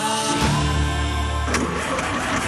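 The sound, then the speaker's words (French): A car engine cranks laboriously and struggles to catch, a strained, uneven churning that sputters and fails to start before cutting off abruptly. “Je ne suis pas garagiste, mais j'ai l'impression que ta voiture a un petit problème de batterie.”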